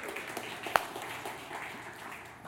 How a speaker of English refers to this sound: Now, as a church, in about 3 weeks, May 12th, we will have our first worship service in our brand new building at 901 Ackland Avenue. And it will, yeah, you can clap for that.